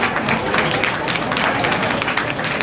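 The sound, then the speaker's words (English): A steady wash of audience applause, many hands clapping at once in a dense, continuous patter that holds at an even level throughout, with no voices standing out. “I don't know if they're looking forward to New Ted Eve all that much, but I just heard them applaud.”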